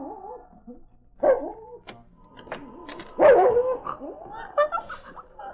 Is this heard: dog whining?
yes